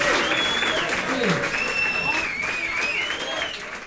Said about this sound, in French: Les applaudissements étaient de mise quand même.